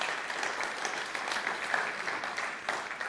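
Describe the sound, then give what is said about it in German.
An audience at an Evangelical Alliance gathering claps steadily to welcome the chairman and his wife, a dense, even wash of many hands with no pauses, sustained at a fairly quiet level for the whole stretch. “Und steht einfach mal kurz auf und lasst uns sie ganz herzlich begrüßen.”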